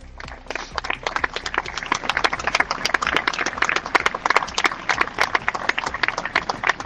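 crowd applause

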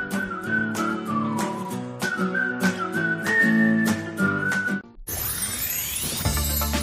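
person whistling a tune

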